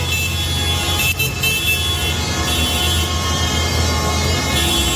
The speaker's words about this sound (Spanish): En Madrid, hoy el centro de la ciudad ha cambiado los atascos de los coches por el colapso con los tractores.